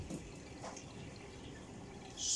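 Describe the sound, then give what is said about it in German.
Faint, steady trickle of water with soft dripping textures throughout, ending in a brief, brighter splash or gush. No one speaks. “Aber dann lass mir jetzt kein Wasser mehr rein.”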